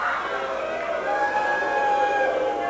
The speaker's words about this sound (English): I heard initial cheers go up and then everybody caught themselves.